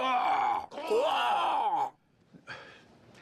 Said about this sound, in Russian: Я каркаю. Как попугай. Нет, не так. Это началось пару месяцев назад. Я столярничал в гараже, пытался стул сделать. Или не стул. Неважно. В общем, внезапно, из ниоткуда, у меня из горла вырвался этот странный крик.